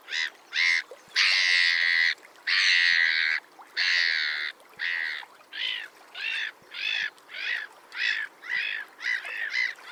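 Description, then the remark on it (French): Black-headed gulls calling loudly: a few drawn-out, grating cries followed by a steady run of shorter, rhythmic squawks, with no voices present. “Je veux parler de la mouette rieuse.”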